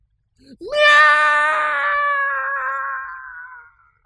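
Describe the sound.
A single long, drawn-out meow imitated by a human voice as a tribute to Henrietta Pussycat from Mr. Rogers' Neighborhood, rising sharply then sustained and slowly fading over a few seconds, loud with rich harmonics.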